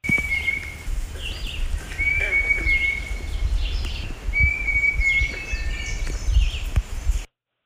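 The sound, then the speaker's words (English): A young hawk gives several long, steady whistled notes at an even mid-high pitch, while a songbird's brief warbling phrases sound faintly behind over a low rumbling background. “it really sounds like somebody whistling into a microphone, but I'll give him the benefit of the doubt and go with it as probably a young hawk.”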